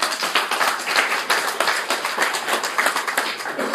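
A crowd applauds steadily, many hands clapping in a dense, continuous patter that stays fairly loud for a few seconds with no voices standing out.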